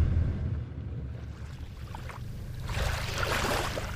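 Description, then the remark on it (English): A motorboat drones steadily across a bay along the shoreline toward the village of Chignik Lagoon, its low engine rumble joined by rising wind and splashing spray that grows louder toward the end. “The village of Chignik Lagoon is about an hour's boat ride along the bay's shoreline.”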